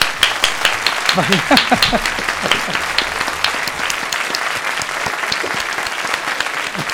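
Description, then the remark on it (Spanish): A crowd applauds steadily in tribute to author Silvia de Béjar, dense overlapping claps filling the full seven seconds, with some cheering voices audible early on before the clapping continues alone. “Homenaje, aplauso y agradecimiento a Silvia de Béjar.”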